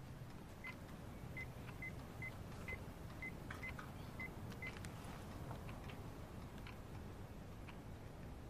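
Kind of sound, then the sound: signal or alarm, telephone number being dialed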